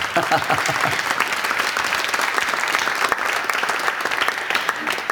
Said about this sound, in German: Klasse. Dein Applaus.